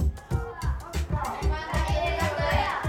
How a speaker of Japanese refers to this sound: 子どもたちがそれぞれボードを手に持って思い思いに喋っています。何でしょうね、学習発表会の練習のようなそんな感じですが